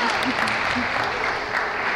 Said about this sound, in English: That's right, number 33. Well done, round of applause. Come on. Good support.